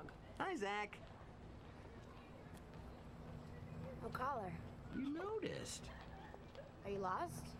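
A hungry dog lets out several short, high whimpering yelps with pauses between them, over a low steady hum in the background.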